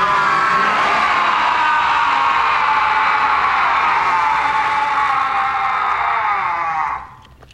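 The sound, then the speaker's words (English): Several deep male voices, Worf and two other surviving Klingons in Star Trek, roar together as a fellow Klingon dies, in one long, loud, sustained scream, raw and harmonic, holding steady for about seven seconds before cutting off abruptly. “And this is maybe my favorite Worf moment in all of Star Trek, because as Cooney Voss shuffles loose this mortal coil, Worf and the two other surviving Klingons from the wreck start growling and then let out a crazy scream.”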